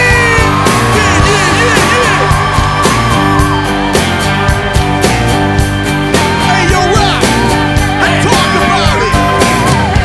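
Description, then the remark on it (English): A crowd screams and yells over a loud live band, the cheering sustained and blended into the steady, driving music for the whole stretch. “Say hell yeah! Now scream!”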